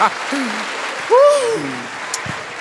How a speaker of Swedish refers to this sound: Folkets jubel!